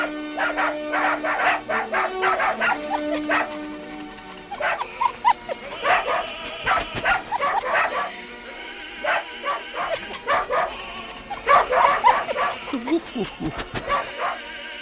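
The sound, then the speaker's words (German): Several dachshunds bark and yip excitedly at a new horn in rapid bursts, their high-pitched barks overlapping in clusters with brief pauses between. “Dackeltruppe sind nun bei der neuen Hupe ganz aus dem Häuschen. Ja, können gar nicht genug davon bekommen und geben ihren hochmusikalischen Senf dazu.”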